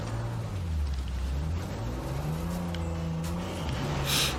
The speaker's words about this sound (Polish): I znowu jeździmy samochodem, słuchajcie.